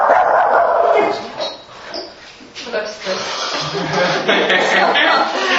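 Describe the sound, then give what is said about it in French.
A dog barks and yips repeatedly, with some whimpering sounds mixed in, while indistinct voices talk in the background. “T'as une question, le chien?”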